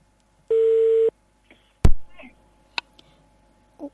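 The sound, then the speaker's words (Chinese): A single steady electronic phone tone, like a ringback beep on a call to a friend about Christmas waiting to connect, followed by a sharp click and a few faint, brief noises. “一起来电话联系，看看不同地方的朋友，他们是咋个过圣诞节呢？”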